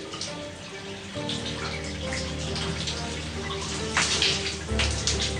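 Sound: running shower water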